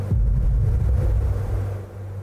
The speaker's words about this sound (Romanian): Se aude explozia.